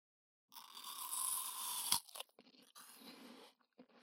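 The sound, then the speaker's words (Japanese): A crisp, juicy bite into an apple: a sustained bright crunch builds to a sharp snap as the piece breaks off, followed by quieter, irregular chewing crunches. No one speaks. “こちらのリンゴはですね、リップノイズを取るためによく現場で使われております。”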